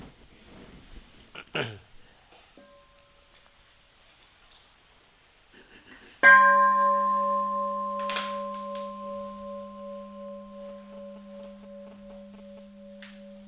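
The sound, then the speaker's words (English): A single bell is struck once and rings out loudly, its deep resonant tone sustaining with a slow, gently pulsing decay. Faint rustling comes before the strike. “We listen to one sub the bell before I would like to share about this question.”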